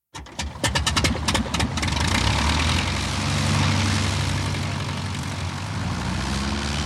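Both propellers of a twin-propeller reconnaissance plane spin up: the engines sputter and catch with a series of sharp pops, then settle into a loud, steady propeller roar that stays constant throughout, with no voices.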